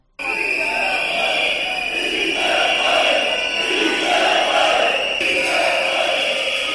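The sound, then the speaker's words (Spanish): More than a hundred workers gathered in central Santander during a strike chant the slogan "¡Sí se puede!" in unison, the loud massed voices rising and falling in a steady repeated rhythm that carries on without a break for several seconds. “Más de un centenar de trabajadores se han concentrado precisamente desde este mediodía en ese sitio para apoyar a los negociadores al grito de «¡Sí se puede!».”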